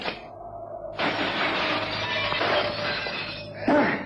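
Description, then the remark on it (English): A loud crash of a glass window shattering as someone jumps through it, followed by several seconds of scattering, tinkling shards and debris, then a brief second burst of breaking glass near the end. “I'm going to simply jump through the glass.”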